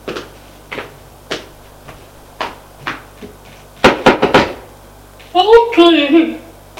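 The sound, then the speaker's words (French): Knocking on a bedroom door, a husband knocking at his wife's room: six slow, evenly spaced knocks, then a louder quick cluster of raps, followed by a short burst of a voice speaking. “Et il va frapper à la porte de la chambre de sa femme.”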